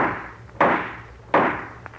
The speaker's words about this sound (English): Sound effects, you ready? All set. Well, let's run through. Let's see, we need a judge's gavel.